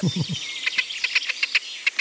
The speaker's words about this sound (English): This is an Irish bird, indeed. It's the hen harrier. Indeed, it is the hen harrier.